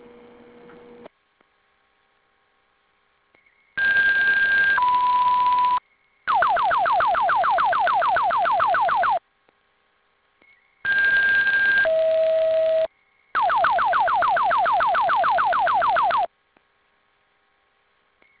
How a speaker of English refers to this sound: Chief 1, go to Wayne. Headquarters, please sound the fire alarm for Lieutenant Marcel Oscar.